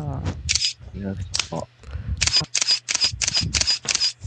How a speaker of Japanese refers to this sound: そう、シャッター音多いからないの。